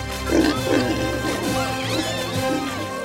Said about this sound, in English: Even cheering are the pigs!